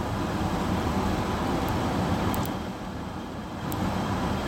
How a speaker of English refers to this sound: I'll wait till this big bunch of cars pass and then get out something to drink, something to chew on the way home, you know.